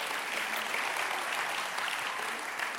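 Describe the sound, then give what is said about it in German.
A sustained round of applause from a large audience, clapping to thank God for the world's babies, dense and steady clapping filling the whole stretch at a fairly even level, with no speech over it. “Können wir Gott mal für all die Babys einen richtigen Applaus geben, ja?”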